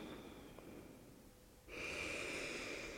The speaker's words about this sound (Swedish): Ta ett djupt andetag in igen.